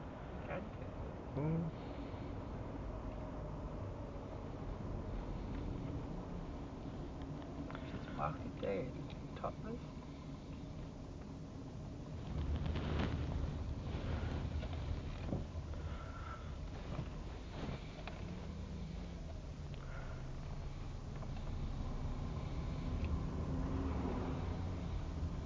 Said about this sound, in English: Suddenly a lot of traffic, that's the first three of them.